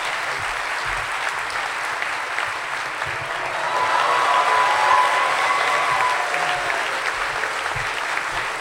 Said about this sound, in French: Alors, est-ce que vous voulez bien l'applaudir? Il est un peu timide, je vais essayer de le faire venir avec moi.